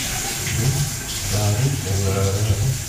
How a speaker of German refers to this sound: Jetzt werde ich noch den Löffel abspülen.